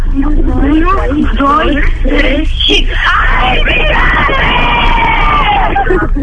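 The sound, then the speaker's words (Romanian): A school class of young girls shouts the Romanian phrase "aripi picante" (spicy wings) together in unison, loud, the chant repeated over several seconds with a few voices rising into shrill yells. “Aș vrea să strigați acum toată clasa aripi picante, aripi picante, toale de firmă, aripi picante.”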